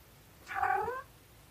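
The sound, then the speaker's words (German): A single drawn-out meow from a pet cat that has just come over, fairly clear, rising then falling in pitch over about half a second. “Meine Katze kommt gerade dazu.”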